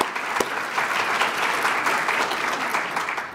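Steady audience applause for a pastor's wife who is present, a dense wash of many hands clapping at an even loudness for a few seconds with no voices rising above it.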